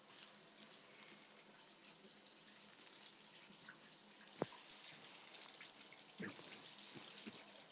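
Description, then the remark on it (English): Steady hiss of running shower water fills the whole clip at a low, even level as someone rinses off, with a sharp knock and a couple of soft splashes breaking through near the end. “Hold on, you're coming in the shower with me really quick while I rinse or wipe you off.”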